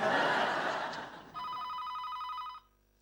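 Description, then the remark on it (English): After a noisy burst of laughter, a telephone rings once with a call from an ex-wife: a bright, rapidly trilling ring lasting just over a second, fairly loud, then cutting off. “Charlie picks up the phone and reads the display. It's your ex-wife.”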